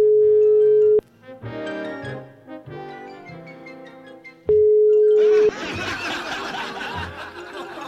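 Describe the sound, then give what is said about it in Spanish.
A phone call is placed again: a steady, loud telephone ringing tone sounds twice, each burst about a second long with a pause between, while people laugh and chuckle underneath; the call goes unanswered. “A ver, espérate, espérate, ahí lo vamos a llamar de nuevo, ¿eh?”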